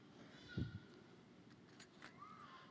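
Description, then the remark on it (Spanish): Car keys are set down with a soft thud, followed by a couple of brief, bright metallic jingles a moment later, fairly quiet against a low background hum. “Las llaves del auto.”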